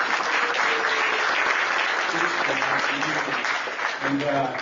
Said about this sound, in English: So lots of hours. So let's give them an applause, all their work.